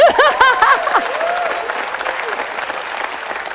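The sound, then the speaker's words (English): An audience claps steadily for a few seconds, with a few brief cheers at the start; the applause is moderate and thins out slightly toward the end. “Boy, for as hard as I'm working, that was a real mediocre hand clap.”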